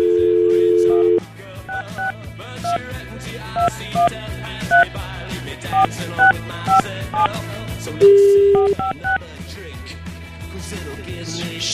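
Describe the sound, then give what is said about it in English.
A steady dial tone gives way to a series of short telephone keypad beeps pressed one after another at an uneven pace, then another brief tone, with faint voices and background noise underneath. “I just use a number pad here.”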